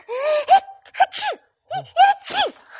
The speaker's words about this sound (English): First, sneezing.